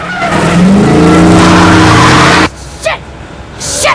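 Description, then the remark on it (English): A car engine roars loudly as the driver slams down on the accelerator and shoots past another vehicle during a car chase, tires screeching, then cuts off abruptly, leaving a quieter whoosh and a brief whine. “As it spins off, she shoots past and slams down on the accelerator.”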